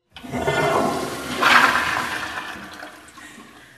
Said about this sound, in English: So that was the toilet flushing, which we're very proud of because we're using recycled water and we've been able to save over 1.5 million gallons of potable drinking water